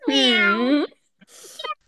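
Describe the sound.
A person imitates a cat with one loud, drawn-out meow, followed by a short pause and some quieter breathy, scratchy vocal noise.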